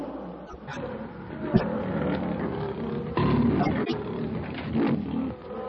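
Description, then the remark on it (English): A lion growls and roars in a long, rumbling, low-pitched stretch, swelling louder in the second half with rough, throaty bursts and no talking. “With a savage growl, the huge king of beasts gathers his great tawny body for the charge.”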